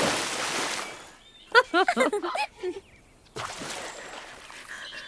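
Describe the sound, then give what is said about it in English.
A loud rush of splashing water from a cannonball jump, then a short burst of excited voices, then another broad wash of splashing and churning water as someone plunges in. “This jump is for the Wonder Bolts! Cannonball!”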